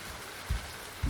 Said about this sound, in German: Da waren wir, auf dem Denali-Campingplatz. Der sintflutartige Regen prasselte nieder und der Himmel war so dunkel, dass es zum ersten Mal, seit wir dort waren, tatsächlich wie Nacht schien.